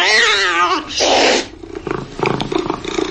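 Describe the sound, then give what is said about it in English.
A loud cat lets out one long, wavering meow, followed by a brief harsh hissy burst, then a person begins talking. “can't stop your cat from taking the best seat in the house.”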